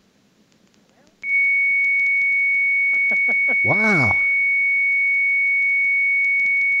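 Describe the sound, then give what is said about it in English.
After a dialed phone call rings and a second of faint line hiss, a loud, steady modem carrier tone switches on abruptly and holds unbroken to the end, with one short exclamation from a voice partway through. “That's the magical sound. But is it a carrier or is it a... Well, it sounds like a carrier.”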